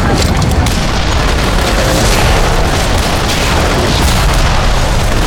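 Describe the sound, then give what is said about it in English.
Swivel guns fire in a rapid volley, heavy booms piling on one another into a dense, continuous roar that stays loud from start to finish, with no voices. “The swivel guns blew off in such quick succession, an avalanche of sound and air pressure washed over Valentine.”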